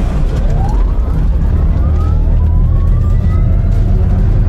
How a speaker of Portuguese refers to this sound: Pininfarina Battista, o carro mais rápido do mundo em aceleração, vai de 0 a 100 em apenas 1,86 segundos.